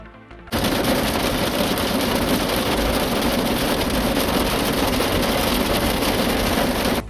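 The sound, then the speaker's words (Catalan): Hail from a strong storm pelts down in Olèrdola at midday on 16 May 2024, just before 12, in a dense, loud, continuous clatter of countless rapid impacts, a steady rattling roar that starts abruptly and keeps up without pause for about a quarter of an hour. “És la calamarsa caient aquest migdia a Olèrdola, minuts abans de les 12 i durant prop d'un quart d'hora.”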